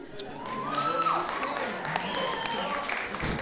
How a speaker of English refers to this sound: And what's funny is women are the ones who are clapping. That shows you how crazy they are.